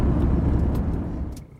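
A car taking kids to school on a roughly 45-minute drive from their house, with a steady, low engine rumble and road noise, fading slightly toward the end; no one speaks.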